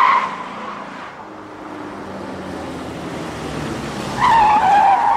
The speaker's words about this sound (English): Marlon's red truck whips down a residential road.